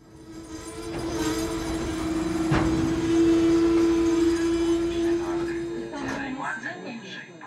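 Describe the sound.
A train rumbles in close by with a steady, loud tonal whine that holds for several seconds before cutting off, and indistinct voices follow at the end.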